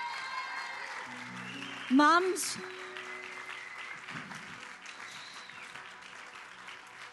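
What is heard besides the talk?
audience clapping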